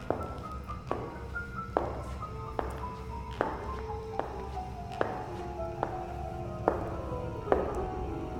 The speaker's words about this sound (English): She rubbed her eyes, looking around, when she heard the distinct sound of high heels coming down the hallway.